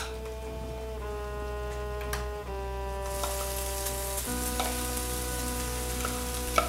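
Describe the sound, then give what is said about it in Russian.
Lemon puree, made from lemons ground in a blender, sizzles in a preheated frying pan, a soft steady hiss that brightens and fills out after a few seconds, with a few faint pops over a constant low hum and tones. “Теперь в разогретую сковородочку мы выкладываем пюре.”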